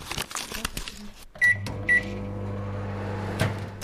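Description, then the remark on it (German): A microwave oven beeps twice as it is set, then starts up with a steady low hum that continues to the end while melting margarine, with a few soft clicks and knocks beforehand. “Ich wiege jetzt die Margarine ab und danach kommt sie in die Mikrowelle zum Schmelzen.”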